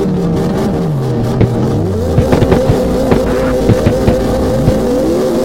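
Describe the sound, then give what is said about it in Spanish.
A car engine revs and accelerates hard through a curve, running onto the grass, pitch sweeping up and down through gear changes, with brief tire squeals and clicks over a steady loud drone, no voices. “Salida insana como debe ser. Toco comerme todo el pasto en esta curva.”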